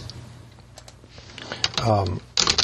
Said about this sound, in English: You can hear the typing. It is not doing anything. I'm assuming my keyboard works.